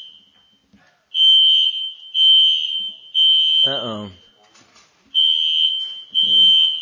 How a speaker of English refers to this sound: There's a fire alarm. Just hang on for a second until we... For those of you out on the cybercast, it is men's turn, and apparently we don't cook very well, so we burned some hot dogs and it set off the fire alarm.